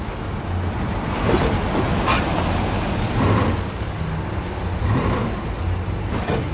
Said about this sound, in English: Later, the truck slowly drives up a sloped lane and stops in front of a garage.